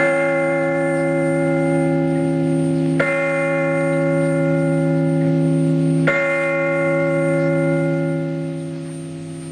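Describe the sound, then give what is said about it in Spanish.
Deep, resonant bells of León Cathedral in Spain ring at midnight with long sustained overtones, struck three times at slow, even intervals about three seconds apart, each toll blooming over the lingering hum of the last. “Están escuchando las campanadas de la Catedral de León.”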